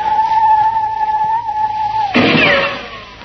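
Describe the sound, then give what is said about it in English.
A person imitates a bird call, holding a steady mid-pitched whistled note for about two seconds before it breaks into a harsher, noisy burst with quick chirping squeaks that fade out. “Try another bird called”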